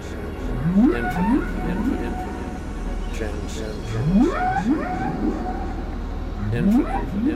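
Whale song with rising, whooping upsweeps in a few clustered bursts, spaced several seconds apart and fairly loud, over a steady low rumble of water.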